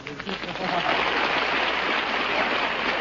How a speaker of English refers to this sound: Oh, please. Oh, please. Oh, thank you. Please, no applause, no applause. With all that applause that sets up a big wind, I'll catch a cold and wind up sounding like Tallulah Bankhead.